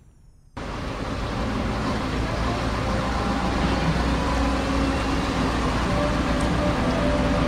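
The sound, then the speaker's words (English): After a brief moment of near-silence, loud truck engines kick in and keep running in a steady, heavy rumble with broad noisy hiss, unbroken to the end, outside a composting headquarters in St. Louis. “We're outside the St. Louis Composting headquarters. We've got all kinds of trucks and everything else going on.”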